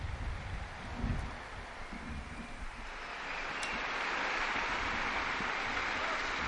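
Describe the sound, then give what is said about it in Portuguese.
Sustained applause from a large crowd for all grandparents, after the Pope's Angelus prayer on the first World Day of Grandparents and the Elderly; a dense steady clatter of clapping that swells louder partway through and keeps going without a break; no one speaks. “Um aplauso a todos os avós, a todos.”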